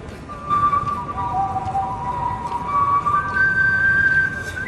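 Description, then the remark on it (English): Someone whistles the national anthem before an Orioles home baseball game against the Red Sox, holding long, clear notes that step between pitches in a slow, stately melody over a steady wash of background noise. “This is …, who was whistling the national anthem before the Orioles took a home a 6-1 win”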